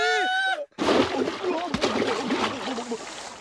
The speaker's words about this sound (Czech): Před námi je řeka. Padáme do Vltavy.